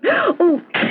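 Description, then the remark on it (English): A loud sneeze: two voiced, wavering gasps build up before a sharp, breathy burst at the end, with no talking around it. “Bless you, my dear.”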